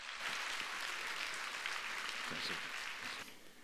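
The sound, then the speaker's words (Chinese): Steady applause from a church audience welcoming guest speaker Pastor Wang Yongxin, a dense crackle of many hands clapping that holds for several seconds and then begins to thin out toward the end. “他将分享这段话语，请大家用热烈的掌声欢迎神的仆人。”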